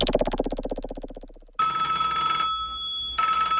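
An old-fashioned telephone bell rings in a rapid, rattling burst that fades out, followed by a steady buzzing line tone that briefly cuts off and returns. No one speaks.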